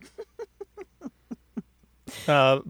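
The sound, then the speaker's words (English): An owl in a barn hoots in a quick run of about eight short, evenly spaced notes, then gives a louder, drawn-out wavering call. “The owl made me go down low? Yes, owl oh.”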